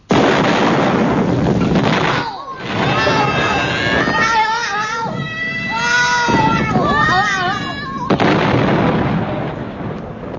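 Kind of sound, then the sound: sound effect, explosion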